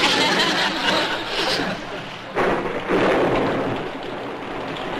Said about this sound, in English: Oh, dear, it's raining.